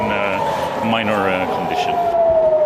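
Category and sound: signal or alarm, air raid warning siren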